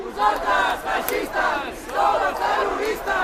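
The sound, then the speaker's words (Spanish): A crowd gathered at the site of an attack to pay respects shouts in unison at fascist protesters, calling them the terrorists, voices rising and falling in loud, rhythmic chanting waves with no single speaker standing out. “El resto de personas que se habían acercado hasta el lugar del atentado para presentar sus respetos no dudaron en plantarles cara gritando que ellos, fascistas, eran los terroristas.”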